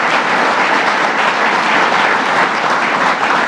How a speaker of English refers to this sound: Give him another round of applause for all he's done, Howard Zemsky.